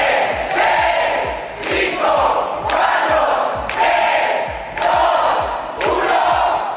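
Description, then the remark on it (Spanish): Apple store workers cheer and shout in loud, rhythmic bursts, about five waves of whooping and clapping that rise and fall in a steady chant-like pattern, an opening ritual at the Apple store in Sol before the first iPhone 6S buyers arrive. “Después de ese rito inicial de los trabajadores de Apple y los aplausos, los primeros compradores comenzaron a llegar a la tienda de Sol.”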